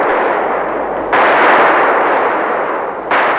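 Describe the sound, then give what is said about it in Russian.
Loud, continuous gunfire over a marsh rumbles steadily, with two sudden surges in intensity as fresh volleys of shots ring out. No voices are heard. “Раздались выстрелы над болотом, и оба гусака упали в камыши мертвыми.”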